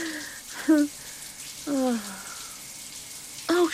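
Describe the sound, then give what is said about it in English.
A steady hiss of shower water running throughout, with three brief, close, wordless vocal sighs or hums rising over the spray. “I love taking a shower in the afternoon when no one's around.”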